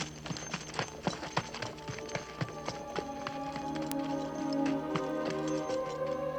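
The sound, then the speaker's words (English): Horse hooves clip-clop in a steady, brisk rhythm, crisp at first, then fade under sustained tonal music that swells in the second half. “You bring that last horse and follow me.”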